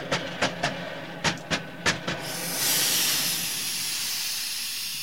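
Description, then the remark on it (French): Several quick, evenly spaced puffs of air give way to a long, steady hiss, a train's steam release signalling that the train is stopping, produced as a sound effect with a compressed-air duster. No one speaks. “Parce que si elle jette de vapeur, ça veut dire que le train s'arrête et tout ça.”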